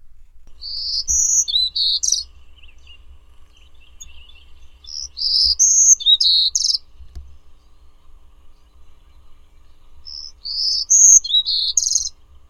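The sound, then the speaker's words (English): Recorded birdsong from the National Audubon Society Birdsong Collection (Lang Elliott, Music of Nature): bright, high-pitched song in three bursts of rapid warbling chirps, each a couple of seconds long, separated by quiet pauses over a faint low rumble. No one speaks. “Birdsong was provided by National Audubon Society Birdsong Collection, Lang Elliott Music of Nature.”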